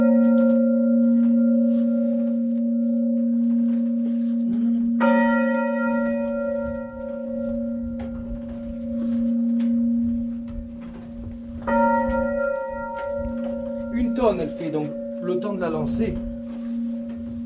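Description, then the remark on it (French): Church bells swing freely in full peal for Easter, a deep sustained hum with repeated overlapping strikes building in layers, loud and resonant, with no talking; the ladies' bell comes in softly first, then the men's bell joins it. “Donc on les sonne à la volée. La cloche des dames arrive doucement. Puis la cloche des hommes va l'accompagner.”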